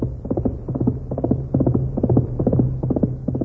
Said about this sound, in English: Golly, look at that horse run. Really fast, all right.